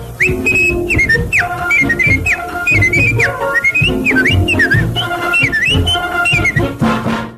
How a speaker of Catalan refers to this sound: Ai, un xiulet i cantarella inconfusibles que van fer seva milers i milers d'oients d'aquest espai.